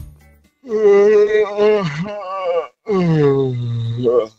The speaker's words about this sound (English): Yeah, well, just to let you know, buddy, I'm sort of just got snuck into bed with a little blanket over the top of me, and I've got a yawn coming for you.